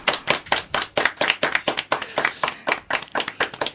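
A short round of applause on Radio Tarumba for a winner of the Tarúmbico 2015 prize in the Adivina la Película quiz: hands clapping in a quick, fairly steady rhythm, each clap sharp and bright, lasting a few seconds with no voices over it.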